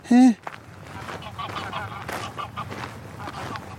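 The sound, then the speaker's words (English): One loud goose honk rings out at the start, followed by several seconds of softer, rustling outdoor background noise with faint chatter-like sounds. “Right, geese.”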